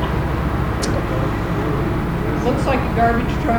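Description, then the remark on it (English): A garbage truck rumbles past outside, its low engine drone filling the background steadily, with a few brief higher squeaks and whines near the end. “Looks like a garbage truck, but really.”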